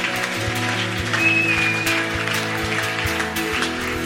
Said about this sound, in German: Lass uns Gott noch einen fetten Applaus geben.